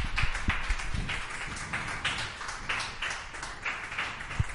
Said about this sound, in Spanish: Bueno, ahí lo podéis escuchar, que aunque dé al interior, aplaudimos.